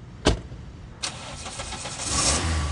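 A car door thunks shut, then an engine cranks and catches, settling into a steady idle that swells slightly as it revs, with no talking; the driver is getting back into the car to head home after visiting time is over.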